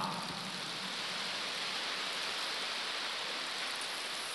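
A crowd applauds in a dense, steady wash of clapping that holds at an even level for several seconds, with no voices over it.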